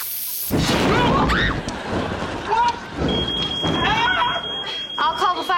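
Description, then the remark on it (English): A smoke alarm's steady, piercing high tone starts partway through and sounds continuously to the end, over loud rumbling commotion and people talking. “I'll disable the smoke alarm.”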